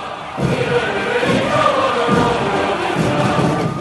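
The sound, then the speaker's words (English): A large crowd roars and cheers at a military parade in China celebrating 70 years of Communist Party rule, a dense, sustained wash of voices with low rhythmic thuds pulsing underneath, loud and continuous throughout. “At the military parade celebrating 70 years of Communist Party rule, crowds cheered, tanks rolled, and Xi Jinping smiled.”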